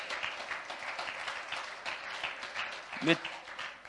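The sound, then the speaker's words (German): An audience at a church service applauds the Lord together, a steady, dense wash of many hands clapping at moderate loudness, with a brief voice rising out of the crowd near the end. “Ich freue mich erstmal, hier stehen zu dürfen, und wir wollen den Herrn einen Applaus geben, weil es ist eigentlich alles gesagt.”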